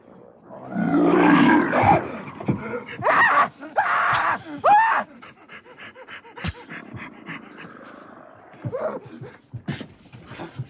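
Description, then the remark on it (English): A man on a train screams in fright after seeing a lizard and hearing its sound, loud panicked yelps and strained cries bursting out over the first few seconds, then trailing into quieter gasps and sporadic sounds against a rumbling background. “it was the screaming idiot on the train when he saw the lizard.”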